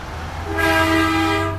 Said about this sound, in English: The soldiers themselves waving from outside of their vehicles, honking as they go by. The sun has just risen here in Kuwait, and these last vehicles are driving over the border.